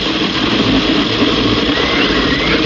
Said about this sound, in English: Turn off the blender. Turn off the blender